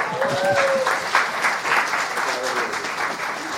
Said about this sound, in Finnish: Eikö se ole ihan aplodin paikka?